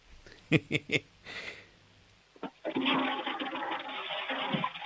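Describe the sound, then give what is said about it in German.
A few sharp knocks and a short pause, then a toilet flush bursts into a loud, steady rush of water that keeps going until the end. “Das ist mal eine tolle Klospülung von der Milena.”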